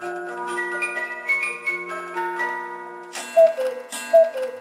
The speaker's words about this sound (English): it's like an ice cream truck and then a cuckoo clock?